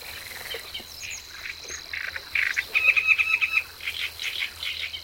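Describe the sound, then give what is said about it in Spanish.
A Cetti's warbler bursts out with its loud, explosive call, a sudden rapid volley of sharp notes midway through, set against a steady background chirring of a Savi's warbler and scattered calls from other birds. “La llamada imperativa es de un ruiseñor bastardo.”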